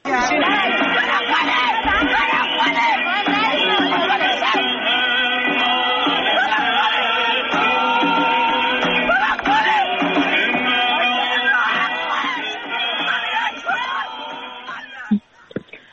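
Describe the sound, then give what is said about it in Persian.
A dense crowd of voices screams and wails in mourning in Iran, loud, with overlapping cries sustained throughout before fading out near the end. “این صدا و عزا و جیغ و فریاد و در واقع عزا همه جای ایران پخش و گسترده است.”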